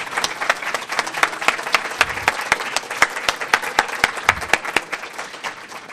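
A crowd applauds steadily for several seconds, a dense patter of many hands clapping with a few sharper individual claps standing out, fairly loud and without speech.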